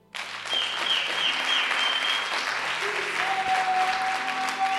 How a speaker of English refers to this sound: Clap.